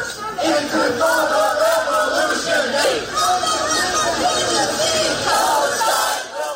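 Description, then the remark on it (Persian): A large crowd of student protesters at a US university shouts chants in unison, protesting the war in Gaza and calling for a ceasefire: a dense, loud and steady roar of many voices with rhythmic rises and falls, continuing without a break throughout. “فریادهای مانند این حالا به شکل قابل توجهی در مراکز آموزشی آمریکا شنیده می‌شود.”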